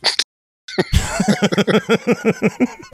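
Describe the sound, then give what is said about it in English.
A rapid, even run of about a dozen sharp dog barks, fairly loud, preceded by a brief yelp and a short pause, as someone takes their dogs out. “Someone's taking their dogs out to shit.”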